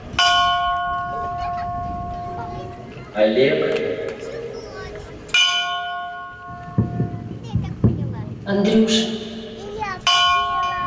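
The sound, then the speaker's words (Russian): A bell strikes three times, about five seconds apart, gathering participants holding white balloons. Each loud, clanging toll rings on with a long humming decay, while a voice speaks in between the strikes. “В определенный момент удары колокола стали собирать участников с белыми шариками в руках”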